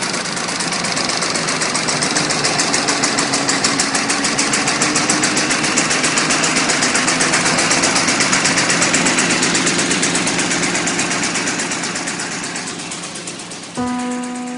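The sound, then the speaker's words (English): A vintage car engine runs steadily at idle for about fourteen seconds, a loud, rapid mechanical chatter with a constant rhythm, ending abruptly with a brief tonal shift at the end. “Just listen to the great sound of this car's engine.”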